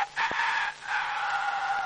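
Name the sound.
imitated rooster crowing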